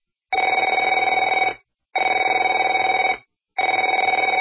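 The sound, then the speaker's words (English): A telephone rings in three long, bright bursts of about 1.3 seconds each, separated by short silences, with a rapid trilling warble and no voices. “Afraid to answer it?”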